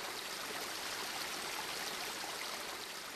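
Steady bubbling and splashing of water from a fountain in the Piazza Montecitorio, falling into its basin, a dense, continuous hiss-like wash with no pauses and no voices, holding an even level throughout.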